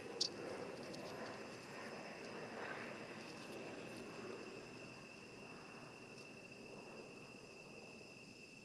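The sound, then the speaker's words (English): An airplane flying overhead: a steady, droning roar fills the whole stretch, broad and even without any clear rise or fall, with a thin high whine running through it and no one talking. “There was a plane going overhead and it got really, really loud.”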